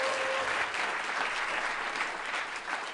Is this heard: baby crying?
no